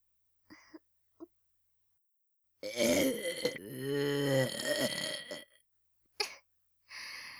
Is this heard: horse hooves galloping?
no